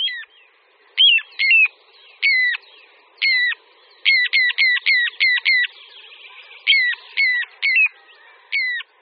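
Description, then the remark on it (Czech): Little ringed plover calls: a series of clear, high, whistled notes, some single and some in quick runs of several, repeated over and over with brief gaps and no talking. “Kulík říční.”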